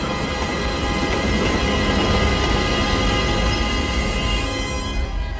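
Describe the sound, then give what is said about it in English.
A loud, steady roar of a train rumbling into a tunnel through a mountain, dense rattling and humming with faint metallic whines, continuous throughout and easing slightly at the very end. No one speaks. “the train is swallowed up into the blackness of the tunnel. It reverses, the rear carriage emerging from the tunnel on the other side of the mountain.”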